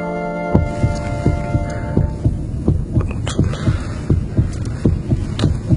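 A loud, steady heartbeat thuds in deep, rhythmic pulses, about two beats per second, beneath a low sustained hum. No one speaks.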